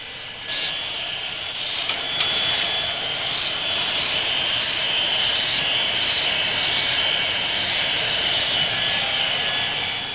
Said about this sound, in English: We are getting ready to drill a small hole in the air sac end of the egg. Now the operator is getting ready to start her dental drill, and the eggs will be drilled just through the shell, but not through the shell membrane.